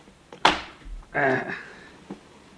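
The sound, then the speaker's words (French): A wooden drawer with a false bottom, in a piece of furniture with a secret compartment, is forced open: a sharp knock, then a strained creaking scrape as it gives way, and a small click at the end, fairly loud. “Voyons, ce tiroir, là. Ça doit pourtant s'ouvrir, ce truc-là.”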